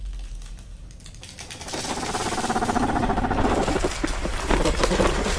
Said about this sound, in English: Applause. For you, Mina.